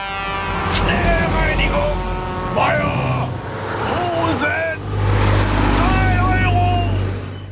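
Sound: trucks driving past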